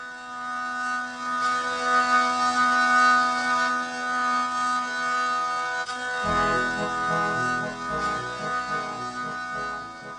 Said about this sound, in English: is a medieval stringed instrument with constant wheezing drones that are cranked out under melodies played on an attached keyboard. If you can't picture that, well, here's what it sounds like.